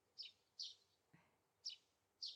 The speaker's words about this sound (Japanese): そろそろ鳥のさえずりとか、葉っぱが風に揺れる音とか、聞こえてきたかな。